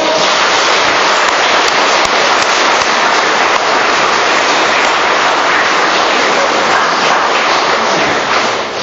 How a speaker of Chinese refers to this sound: 那么在这里呢，我建议啊，让我们以双倍的掌声来庆祝我们的双重的幸福。